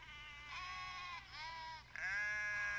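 Sheep bleat three times in quick succession, each call a wavering, nasal cry, loud, with a faint low hum underneath and no talking.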